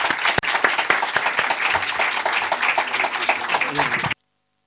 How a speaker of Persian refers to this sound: خواهشمندم با همراهی شما خوبان ایشون رو تشویق کنید که مست تنبور نوازی ایشون بشه.